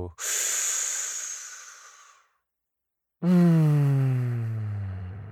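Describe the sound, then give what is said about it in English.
A slow, airy breath drawn in through the nose for about two seconds, a brief pause, then a long voiced exhale like a low hum that drifts downward in pitch, clear with no talking, as a nose breathing exercise. “It's time for a breather show.”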